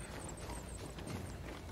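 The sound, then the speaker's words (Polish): Horse hooves clip-clop in a quick, steady rhythm, a continuous run of hard knocking hoofbeats at an even, moderate loudness with no voices over them. “Ciekawe, czy jak konia tu zawołam, to czy będzie na molo?”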